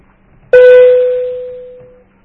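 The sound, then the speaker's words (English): An alarm sounds during a workshop session with the Auditor General as a single sudden electronic tone, steady and mid-pitched with a bright edge, fading out over about a second and a half above a faint low hum. “Sorry for the alarm.”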